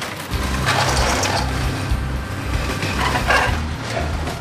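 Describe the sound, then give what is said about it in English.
Heavy industrial machinery grinds and crunches continuously, with metallic clanking, tearing bursts and a deep mechanical rumble, loud, as a car shredder rips a flattened car fed in on a conveyor belt into pieces. “It takes a flattened car and puts it on a conveyor belt to get ripped into pieces.”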